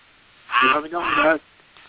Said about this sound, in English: I heard a quack. I heard a quack.